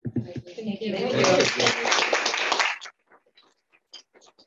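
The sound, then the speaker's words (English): An audience breaks into loud, dense applause for a team for a couple of seconds over a voice at the start, then it cuts off, leaving only a few scattered, faint claps. “But give them applause.”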